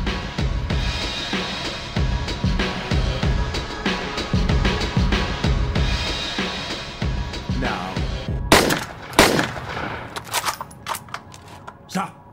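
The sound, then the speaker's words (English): Film audio with voices over a dense soundtrack, then a few sharp, loud sniper rifle shots crack out in quick succession toward the end, each a sudden bright burst, as snipers shoot men in the scene. “I thought the sniper part was really interesting because they stay on the snipers throughout them, the guys getting shot.”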